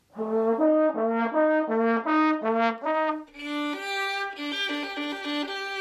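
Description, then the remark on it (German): A trombone and then a violin play alternating two-note, high-low patterns a perfect fourth apart, mimicking a police siren, the brass lower and smoother, the strings brighter and quicker, loud with no talking. “Lösung B ist richtig. Es waren eine Posaune und eine Geige.”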